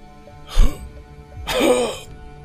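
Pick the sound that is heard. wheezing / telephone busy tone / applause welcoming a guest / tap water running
wheezing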